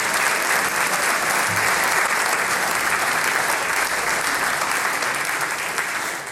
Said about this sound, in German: Applaus für die zwei Mädels